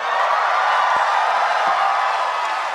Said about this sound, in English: emerging from the depths to a triumphant round of applause.